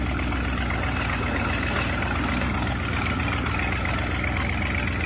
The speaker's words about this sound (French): Tu vas bientôt arrêter le moteur là.